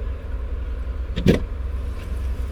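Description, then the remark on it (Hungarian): A car door shuts with a soft, muffled thump, one brief dull impact over a steady low engine rumble, with no talking. “És annyit előtt becsukod az ajtót?”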